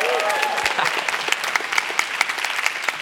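A church crowd claps steadily for a few seconds for its volunteer dream team, a dense patter of many hands with sharp individual claps popping out, plus a faint whistle early on.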